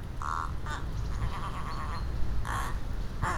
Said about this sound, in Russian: Это подлинная запись вороны, которая подражает козе. Сейчас она сидит на ветке высокого дерева.